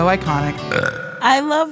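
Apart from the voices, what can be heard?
burp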